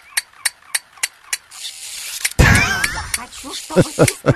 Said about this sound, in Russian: Это такая маленькая, ну, если вы не видите, это маленькая обезьянка, такая заводная, с тарелками этими, как в духовых оркестрах. И вот она такая, сальто сделала и снова.